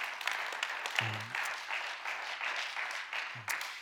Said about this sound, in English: Yes, and we can clap for them. Thank you.